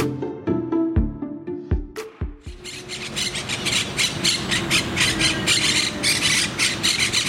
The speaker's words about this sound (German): Was ihr hier hört, das sind Mönchsittiche. Mönchsittiche, das sind eine Papageienart, die ursprünglich aus Südamerika kommt, aber weit darüber hinaus verbreitet ist. Zum Beispiel in Spanien.